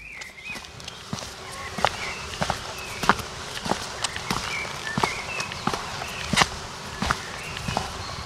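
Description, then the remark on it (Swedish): Steady footsteps walk along Karl Knutssonsgatan in Söderköping, Sweden, at an even pace, each step a crisp tap, with faint birdsong and a soft outdoor hum in the background. “Lyssna på fotstegen, försök följa dem och gå i samma takt.”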